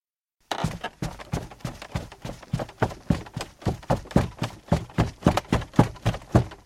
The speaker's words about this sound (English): Sure enough, they heard footsteps running down the stairs.